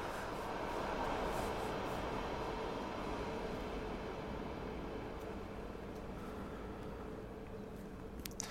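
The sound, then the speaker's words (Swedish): A steady low rumble of a train going past outside, broad and continuous for several seconds, with no voices. “Nu måste jag vänta till tåget kör förbi här utanför.”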